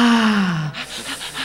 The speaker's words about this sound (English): So you're breathing in and out of your mouth? I forgot to breathe.